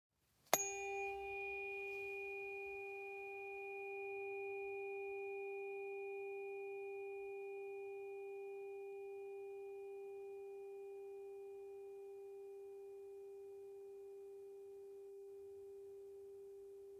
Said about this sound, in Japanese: この音が胸に心地よく響くと感じたなら、この音叉を選んでください。